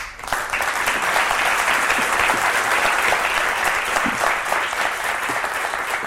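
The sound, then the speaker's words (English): An audience claps steadily for about six seconds, a dense, even wash of many hands with no voices rising above it, holding a fairly constant loudness throughout. “Though the applause was genuine, the feedback that followed was mixed.”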